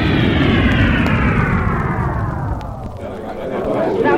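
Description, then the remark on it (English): Six spaceships coming in to land on the lawn around the Washington Monument in Washington, D.C.: a loud, heavy engine roar with a whining tone that slowly drops in pitch, continuous for a few seconds as it settles. “And on the lawn surrounding the Washington Monument in the capital city of the United States, the robot plane accompanies six magnificent ships to a soft landing.”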